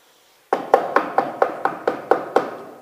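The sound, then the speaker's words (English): A steady run of about nine sharp knocks at a friend's house late at night, on a wooden surface, evenly spaced and fairly loud, with a hollow ring after each rap and no voices. “He's knocking. He's knocking, expecting an answer.”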